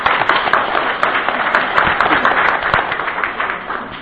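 An audience applauds steadily for the full four seconds, a dense, even wash of many hands clapping with no voices over it.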